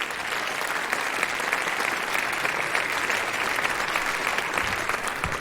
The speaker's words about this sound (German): Bei 8,1, das ist ein Applaus wert nochmal.